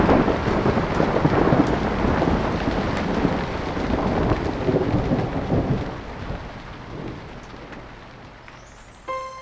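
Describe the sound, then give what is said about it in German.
A heavy thunderstorm passes overhead, deep rolling thunder rumbling beneath steady, dense rainfall, the roar easing somewhat toward the end with no voices present. “schliefen so fest, dass sie nicht mitbekamen, wie das heftige Gewitter über ihnen hinwegzog.”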